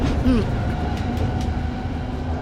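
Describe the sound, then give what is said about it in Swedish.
A line 3 tram rolls steadily along its rails, a continuous low rumble with a faint mechanical hum and a brief metallic wheel squeal near the start, heard from a passenger standing at the front. “Det är en vanlig dag och Hannes är ute och åker spårvagn.”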